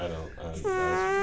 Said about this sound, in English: Isn't that the best fart noise?